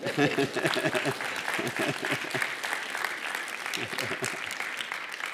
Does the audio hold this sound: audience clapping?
yes